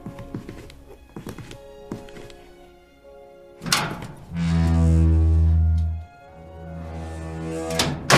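A door shuts with a solid thunk, followed by a loud, steady low hum lasting a couple of seconds, then another sharp knock near the end; no one speaks.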